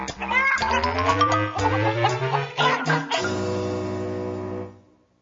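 Chickens cluck and squawk loudly in a burst of choppy, overlapping calls, then one long drawn-out cry that holds steady before cutting off. No one speaks.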